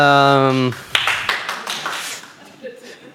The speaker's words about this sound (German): Ich wollte jetzt keinen Applaus unterdrücken, Entschuldigung.